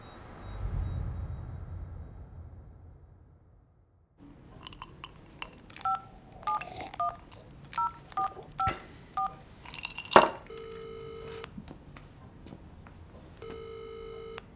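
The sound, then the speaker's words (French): A phone number is punched in as a quick series of clipped keypad beeps, followed by two buzzy, steady ringing tones separated by a pause. Before that, only a low rumble; no one speaks. “Bon, allez, décroche, allez!”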